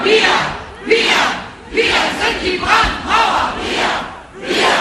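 Thousands of protesters in the streets of Germany chant in unison against fascism, loud rhythmic shouted phrases repeating about once a second, the massed voices rising and falling in steady bursts.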